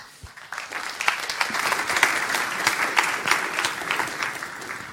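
A crowd applauds steadily, many hands clapping in a dense, continuous patter that swells quickly after a soft start and holds at a fairly even level, with no talking over it.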